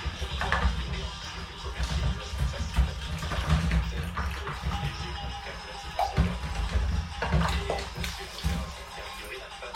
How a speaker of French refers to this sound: D'ailleurs, le robinet d'eau chaude goûte toujours un peu quand on ne le ferme pas correctement. Heureusement, on peut le fermer correctement.